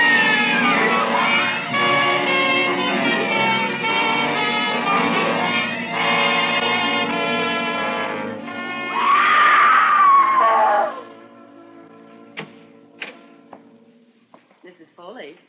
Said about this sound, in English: You mustn't scream like that. I wasn't screaming.